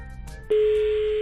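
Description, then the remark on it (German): A telephone ringback tone as a radio host phones a listener in Sarntein for a morning wake-up call: after a brief quiet moment, a loud, steady single-pitched beep starts abruptly and holds unbroken to the end, heard alone with no talking. “Und sie geht hoffentlich ans Telefon.”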